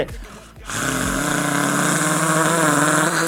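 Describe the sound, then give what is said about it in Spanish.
A voice imitates a coffee maker: low sputtering burbles for half a second, then a loud, steady hissing, gurgling roar with buzzy overtones that holds to the end. “Buena cafetera, ¿eh?”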